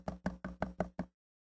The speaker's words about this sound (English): When somebody knocked on my door,